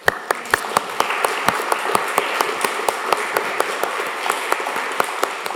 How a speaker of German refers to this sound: Singen dürfen wir nicht, aber klatschen.